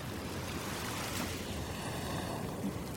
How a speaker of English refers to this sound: I can take a long view, I can rest my eyes on that vanishing point where the North Sea meets the sky and just stand and soak up the ambient sounds of sea wash.